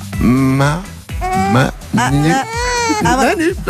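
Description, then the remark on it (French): A two-month-old baby girl cries loudly on a bus, in four strained, wavering wails with brief catches of breath between them, with no other voices. “C'est honnête, on n'avait pas eu de bébé dans le bus encore.”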